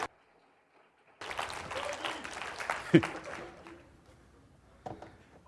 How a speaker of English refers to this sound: But cheer him on, guys. Let's go.